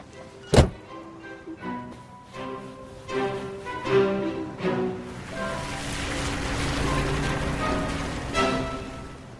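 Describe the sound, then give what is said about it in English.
A single sharp thunk, like a car door slamming shut as a woman gets into her car, rings out near the start, followed by a swelling rushing noise, with no one talking. “Mrs. Logan pushes Trish aside and gets into her car.”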